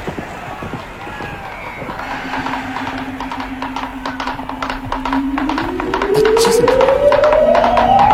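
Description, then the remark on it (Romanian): Rapid, steady drumming of galloping racehorses' hooves, the horses running so low their bellies nearly brush the ground, fills the scene over a noisy background, growing louder, while a rising whine swells in during the last few seconds. “Doamne, într-adevăr, cai aproape șterg pământul cu pântecul.”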